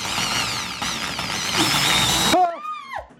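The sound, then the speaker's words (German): An electric drill drills holes, whirring loudly for a little over two seconds, its high motor whine wavering in pitch, then cuts off and spins down with a falling tone. “Ich könnte auch mal versuchen jetzt mit der Bohrmaschine.”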